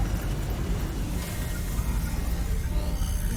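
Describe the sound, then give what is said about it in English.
A spaceship's reflector dish adjusting: a steady, deep mechanical rumble with a thin, high whine rising faintly toward the end. No voices. “You hear a whine as the ship adjusts its reflector dish.”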